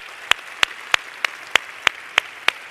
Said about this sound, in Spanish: Para la gente que está aquí por primera vez, ¿quién está aquí por primera vez en una convención? Levante la manita. Hay que darle un aplauso de bienvenida. Felicitaciones, qué lindo.